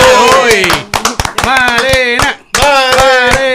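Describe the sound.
Sharp, uneven claps ring out over loud, sustained voices cheering and calling, with the clapping and voices continuing together through to the end after a brief dip.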